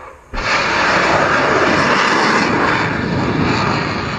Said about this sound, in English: At On Point Radio, here was the sound that mattered, at least for a moment. Last Thursday, U.S. Navy posted a video on YouTube of the launch of missiles from the USS Porter in the Mediterranean Sea, targeting that Syrian airfield.